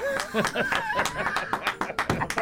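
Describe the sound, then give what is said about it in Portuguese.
A burst of hand clapping, quick sharp claps in an uneven run that grows steadier toward the end, mixed with laughing and voices. “Aplaudindo a coragem.”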